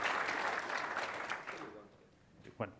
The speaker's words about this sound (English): Is that worth an applause at this point? It's good. All right. Okay. Thanks.